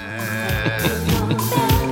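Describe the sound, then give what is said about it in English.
A short, loud closing jingle plays on its own: layered sustained tones with rhythmic accents pulsing through it, and no one talking over it. “Hit us with that jingle,”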